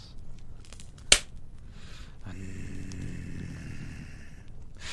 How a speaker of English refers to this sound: You shook your hand and I slapped your tit. Like this.